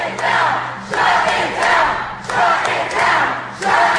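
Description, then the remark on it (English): A large protest crowd outside the Supreme Court chants in unison, loud, with rhythmic shouted phrases repeating roughly every second and a half over a dense roar of voices. “Shut him down, is that what they're saying?”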